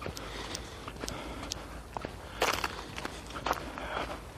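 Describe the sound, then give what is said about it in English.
Steady footsteps crunch and squelch over a sidewalk of half ice, half snow with liquid underneath, about two steps a second, with a couple of louder, grittier scrapes midway and near the end, and no voices. “Oh, this is a crappy sidewalk. Half ice, half snow, all liquid underneath. Slippery as hell.”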